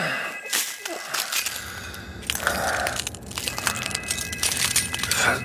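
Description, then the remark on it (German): Glass breaking and crunching, a dense run of sharp, bright crackles and tinkling shards spread over several seconds, fairly loud, with heavier bursts near the start and end. “Was denn das? Wo kommt denn das Glas her?”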